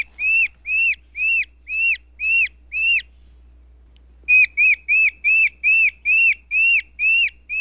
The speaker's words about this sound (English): Speaking of Southeast Asia and the forest, here's the endangered orangutan from Maya Lin's new memorial.